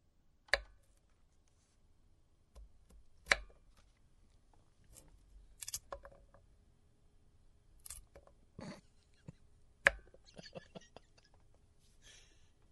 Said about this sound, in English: Chopping some carrots. That's all it was. It was a dude chopping a carrot. By the way, that sounded kind of grody because you could hear it kind of rolling away.